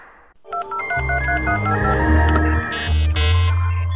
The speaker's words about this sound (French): On entend le petit modem, c'est l'heure de musique connectée.